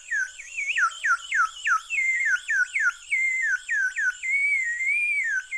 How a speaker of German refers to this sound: Oder auch Vogelpfeifen.